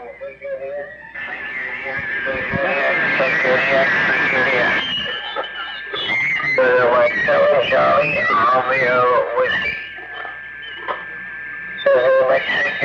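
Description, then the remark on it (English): A recorded voice comes through a radio receiver using digital signal processing, thin and narrow-band, with strong tonal artifacts and very little white noise in the gaps between syllables. “Yeah, and hear that in between each syllable, there was very, very little white noise at all. And that's one of the beauties of digital signal processing, is to be able to, in between each syllable, kill that white noise.”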